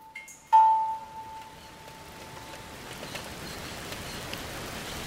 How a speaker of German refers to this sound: Regenzeit in Panama. Zwischen Mai und November geht das Wasser in Sturzbächen nieder. Jeden Tag und das über Stunden.